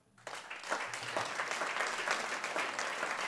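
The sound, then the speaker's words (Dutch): An audience breaks into steady applause for a literary guest, a writer, called to the front, many hands clapping in a dense, continuous patter that starts abruptly and holds at an even level throughout. “Dames en heren, mag ik uw applaus voor Tom Lanois.”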